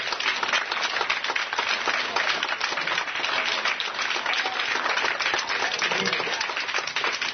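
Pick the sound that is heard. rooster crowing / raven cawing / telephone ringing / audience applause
audience applause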